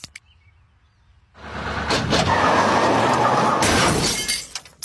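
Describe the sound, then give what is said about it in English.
After a quiet start, a bus driver crashes into and totals a Camry: a sudden loud crash with a dense burst of shattering, tinkling glass and a low crunching rumble. The noise holds for a few seconds, then cuts off. “Your bus driver just totaled my Camry!”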